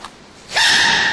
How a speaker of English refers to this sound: And the panda sneezing.